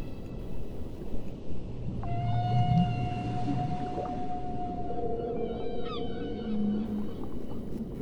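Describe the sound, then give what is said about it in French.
A long, eerie whale call stretches for several seconds, a steady high tone with rising and falling wails, set against a constant low underwater rumble. “Quand soudain, ils aperçoivent une baleine qui se nomme Mouad.”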